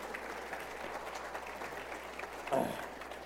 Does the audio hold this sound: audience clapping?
yes